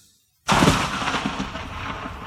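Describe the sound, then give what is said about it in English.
A sudden, loud crack of thunder with a flash of lightning bursts out of silence, then rolls on as a heavy, rumbling roar that barely fades before the end; rain then starts. “Suddenly, there was a flash of lightning and the noise of thunder.”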